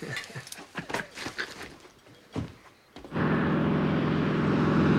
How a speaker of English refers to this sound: The seaplane takes off. Now flying over the woodland and fields around Beaver.